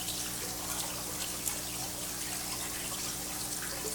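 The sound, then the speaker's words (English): Water pours steadily into a jar, a continuous trickle with a bright, splashy hiss that holds evenly from start to finish, with no one speaking. “Water.”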